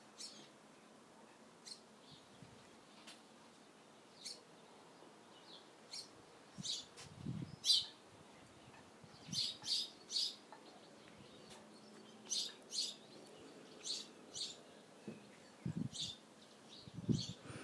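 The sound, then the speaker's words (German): Birds chirp and sing in a garden in short, bright bursts scattered throughout, fairly quiet, with a soft background hush and no talking. “Währenddessen kannst du den Vögeln lauschen, die hier in meinem Garten so schön singen.”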